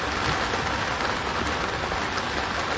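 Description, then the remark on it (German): Heavy rain from a summer thunderstorm pours down steadily over a ship procession on Lake Constance, a dense, continuous hiss of countless drops pattering on surfaces, loud throughout with no pauses. “Ein unbeschreiblicher Regen von einem Sommergewitter prasselte hernieder und ließ alle Beteiligten nicht nur die Nähe des Wassers im Bodensee, sondern auch des Wassers vom Himmel herab verspüren.”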